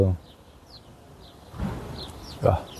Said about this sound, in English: I feel I'm in the wood. Birds sing here. Wow.